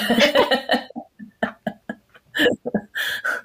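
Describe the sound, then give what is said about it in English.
A run of soft coughs close to the microphone, starting with a longer rough burst and followed by several short, uneven hacks and little throat sounds. “I could like cough gently into the microphone.”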